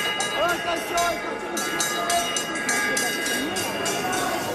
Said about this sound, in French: Voilà, et c'est la cloche, c'est l'heure de la cloche pour tout le monde, pour les vaches, pour les visiteurs, pour les exposants.